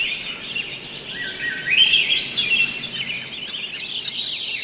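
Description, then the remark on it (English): A dense summer dawn chorus of many birds singing at once at first light in July, overlapping trills, chirps and whistles filling the air continuously at moderate volume, with no voices present. “In July, you might have heard this dawn song, many birds singing at first light.”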